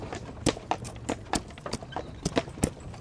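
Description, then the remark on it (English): Horse hooves clip-clop at a steady walking pace, sharp knocks repeating about every quarter second as a horse-drawn wagon rolls along, with no talking. “Well, here we are. Want the wagon by the barn?”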